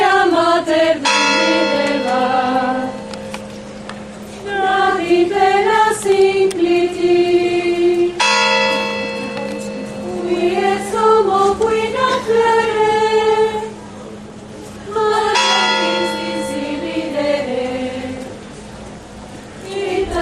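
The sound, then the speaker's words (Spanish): Church bells of San Lorenzo in Córdoba, Spain, ring out loud on Holy Monday, with three strong strikes a few seconds apart and long, humming tones that linger and shift between notes. “Se vive en el Lunes Santo, como en la entrada de la Hermandad de Ánimas, donde el silencio de San Lorenzo solo se rompe por el cántico gregoriano de las hermanas y el redoble de las campanas.”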